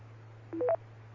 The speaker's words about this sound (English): I've got a phone call coming in, but whatever you said, please repeat it.